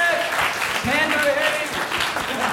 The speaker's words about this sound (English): Yes! Round of applause.